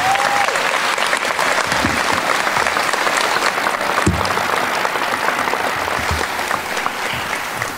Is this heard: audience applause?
yes